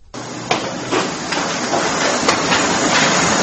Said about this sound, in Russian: На площади Гудиашвили слышен характерный для стройки шум. Здесь пилят, строгают, бьют молотком, штукатурят, словом, работают на всю катушку.